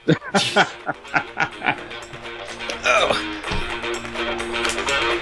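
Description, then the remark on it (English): A dog gives a rapid run of short, sharp barks, then the sound gives way to a steadier, busier background with voices mixed in. “Uh-oh, what, the dog get in there or something?”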